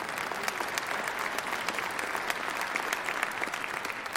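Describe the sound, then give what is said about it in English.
A church audience claps steadily for several seconds during a sermon, a dense, even patter of many hands with sharp transients scattered throughout and no voices standing out. “Yeah, you ought to clap for that.”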